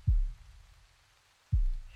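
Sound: heartbeat heard through chest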